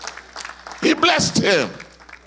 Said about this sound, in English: Lord, have mercy. Give him a good clap offering right now.